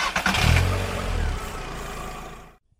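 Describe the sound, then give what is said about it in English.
A car engine cranks and turns over, then revs with a low, steady rumble as it pulls away, holding a fairly loud drone before cutting off abruptly. “Then, drive in the car.”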